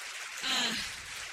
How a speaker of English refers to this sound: If that's you, would you just go ahead and stand up? I want to celebrate you. Would you start clapping for these amazing friends?